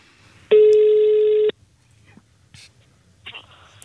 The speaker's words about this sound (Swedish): Och jag tycker att vi ska lyssna till hur det lät när ni i lyssnarjuryn ringde upp